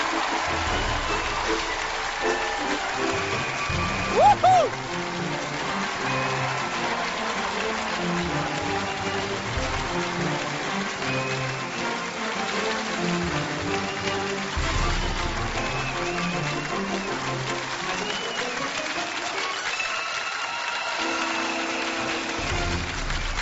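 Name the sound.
audience applause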